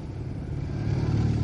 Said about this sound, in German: Pass auf, die Autos